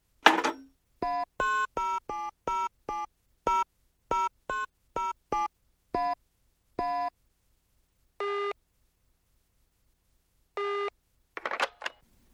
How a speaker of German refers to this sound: In ihrer Verzweiflung griff Frau Grubeck zum Telefon.